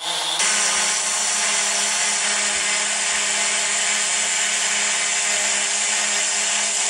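A drone buzzes in flight with a loud, steady, high-pitched motor whine that starts abruptly and holds constant for several seconds. No one speaks.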